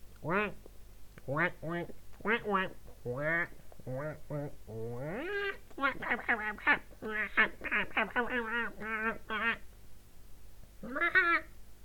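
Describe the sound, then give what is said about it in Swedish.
A person imitates a duck with rapid, nasal quacks in quick bursts, fairly loud, including a longer drawn-out call midway, then a final short quack after a pause. “Jag kan låta som en anka.”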